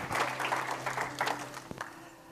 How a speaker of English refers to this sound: Give the Lord a good hand clap.